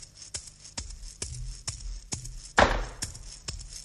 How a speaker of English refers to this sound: I have just clapped four times.